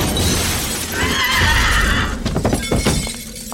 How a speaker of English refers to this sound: With that, Byron threw the ornament over the bookcase. The glass shattered.